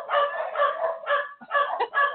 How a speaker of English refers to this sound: excuse me, the dogs got out apparently.